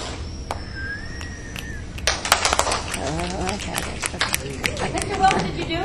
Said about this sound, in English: first you clap your hands together, you go up in the air